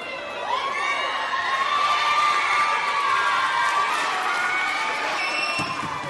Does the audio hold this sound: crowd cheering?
yes